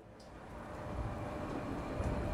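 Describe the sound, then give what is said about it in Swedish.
A train in Gothenburg rumbles steadily with a heavy low-end roar, its rolling noise building slightly, with faint metallic clicks from the tracks and no voices. “I en annan del av Göteborg hoppar en flicka av tåget.”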